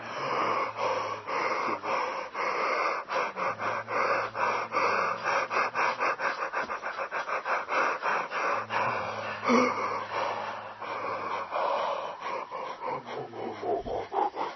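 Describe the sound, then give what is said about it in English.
Breathy exhalations with a low voiced hum, drawn-out yawns and sighs done as a vocal exercise, repeat steadily for about fifteen seconds, with rapid fluttering pulses in the middle and no talking. “We started with yawning. It's always nice to go back to the beginning, back to the basics, yawning and sighing.”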